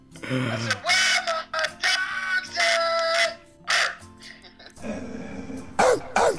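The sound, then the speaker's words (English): A person imitates a dog with a run of rough, loud barking yelps, some short and some drawn out into a harsh, howl-like woof, ending in a breathy final pair of barks. “How about give us a bark for the road?”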